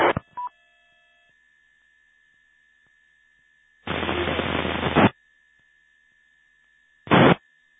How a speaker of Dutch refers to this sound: Nee, ik hoor dat er iemand probeert over de repeater in Eindhoven te komen, maar ik hoor eigenlijk een beetje ruis of verder niks.